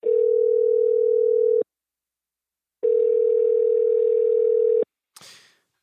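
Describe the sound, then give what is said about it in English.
A steady telephone dial tone, as a phone call is placed on a Friday night, hums loudly for about a second and a half, cuts out, then returns for two more seconds before a brief clatter ends it. “And then Friday night, we got on the phone one last time.”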